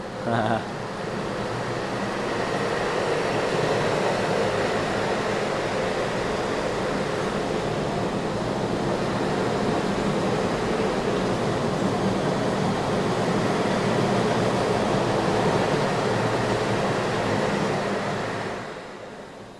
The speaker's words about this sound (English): So Bahn is train, and the Westbahn that we're listening to is basically field recordings of the train next to Yeah, it's coming now.